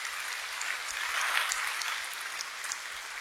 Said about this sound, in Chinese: 我们给上帝一个最大的掌声。